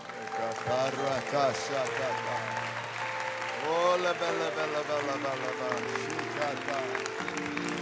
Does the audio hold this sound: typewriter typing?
no